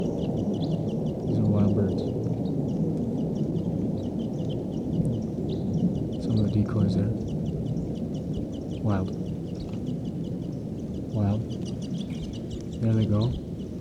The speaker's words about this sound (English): There could be as many as 10 birds here. Stop. Birds are calling. They may take off.